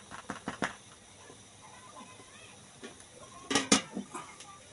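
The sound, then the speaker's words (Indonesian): Metal kitchenware clatters: a quick run of light taps and scrapes, a quiet pause, then a louder double clank as a strainer is set over a steaming pot of sticky rice (nasi ketan) to cover it. “Kita tutup pakai saringan seperti ini. Kita tutup.”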